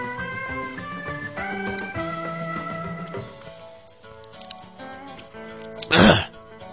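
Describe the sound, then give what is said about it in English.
One loud, rough throat clearing bursts out near the end, following a stretch of softer, steady tonal sound with no talking. “I'm having such trouble clearing my throat, swallowing lately.”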